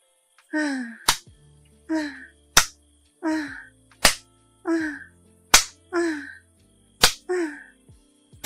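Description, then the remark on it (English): A hand spanks bare buttocks, both cheeks, six times in a steady rhythm, each loud, sharp smack coming about a second and a half apart. A breathy, falling moan or whimper comes before each slap. “Being spanked so hard, I think my cheeks are clapping together with all the jiggling.”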